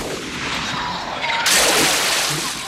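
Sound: rifle gunshot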